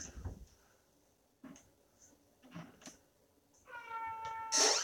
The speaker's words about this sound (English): That was weird. There was like a really loud bang noise, but I think it was a cat thing.